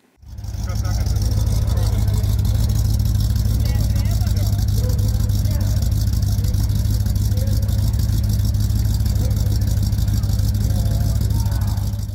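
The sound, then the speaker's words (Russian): Car engines idle and rumble steadily at the Memel Motorfest on a parade street in Vilnius, loud, a deep continuous drone filling the whole stretch, with indistinct voices in the background. “Задача Мимель Моторфест – поднять настроение. Автомобили с этим справляются отлично.”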